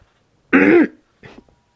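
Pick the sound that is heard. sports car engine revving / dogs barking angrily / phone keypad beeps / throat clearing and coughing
throat clearing and coughing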